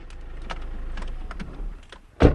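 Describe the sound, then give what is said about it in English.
A car's low engine rumble with a few faint clicks and creaks, ending in a sudden loud thump like the vehicle halting or a door shutting, as Bordeaux wine grower Michel Ray stops his car on a tiny road amid vineyards in France's Bordeaux wine-growing region. “Bordeaux wine grower Michel Ray stops his car on a tiny road in the middle of a sea of vineyards.”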